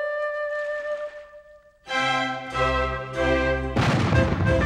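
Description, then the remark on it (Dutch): Cannons fire a royal salute on the Grand Canal in Venice during carnival, booming out in a series of loud, deep blasts, roughly four in quick succession, after a brief stretch of sustained tonal sound. “Luister! Kanonnen! Op het grote kanaal! Het is een koninklijk saluut.”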